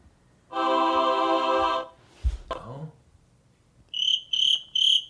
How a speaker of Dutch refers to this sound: Een krekeltje.